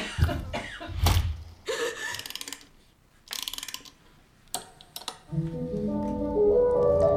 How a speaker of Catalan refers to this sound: La tos no era de la pel·lícula.